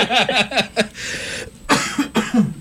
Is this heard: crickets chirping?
no